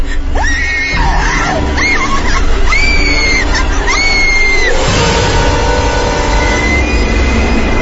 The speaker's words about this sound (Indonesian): Namun ketika aku sedang menceritakan, tiba-tiba saja terdengar jeritan yang sangat keras dari kamar lainnya.